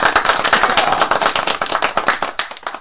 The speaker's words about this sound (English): So, wait, you get an official clap for this.